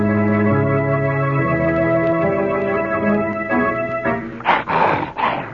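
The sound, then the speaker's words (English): A male dog, Blackie, growls low and steadily for several seconds, then breaks into a few harsher, louder rasping bursts toward the end, with no one speaking. “What's the matter, boy? What is it? Why are you growling?”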